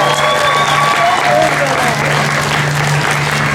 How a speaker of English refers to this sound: Can you give a round of applause for our first